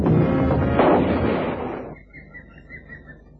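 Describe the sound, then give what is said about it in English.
A single heavy big-game rifle shot booms, fired at an attacking crocodile, its rumbling echo rolling on for over a second before fading, leaving faint bird chirps in the quiet afterward. “I had to shoot.”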